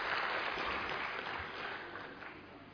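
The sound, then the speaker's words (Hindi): An audience applauds steadily in welcome at the opening welcome session of a global culture, love, peace and harmony event, a dense wash of many hands clapping at once that holds for nearly three seconds and eases slightly toward the end, with no voices over it. “वैश्विक संस्कृति प्रेम शांति सद्भावना का आज जो स्वागत सत्र है, इसमें आप सभी का विशेष विशेष स्वागत स्वागत स्वागत, जोरदार तालियों से स्वागत करें।”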